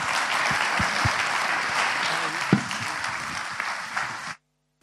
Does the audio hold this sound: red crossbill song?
no